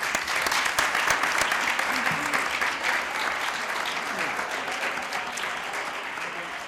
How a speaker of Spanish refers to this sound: Un fuerte aplauso para Nadia y para Marcos.